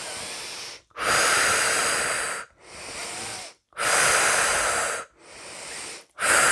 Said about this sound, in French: nous prenons quelques inspirations un peu plus toniques.